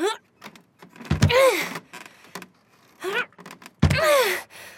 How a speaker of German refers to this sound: Ich muss gegen die Tür treten. Mist, die Tür sitzt fest. Mit Anlauf.